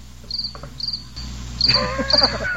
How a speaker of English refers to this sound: It's a lot of crickets. Wow, that button got stuck.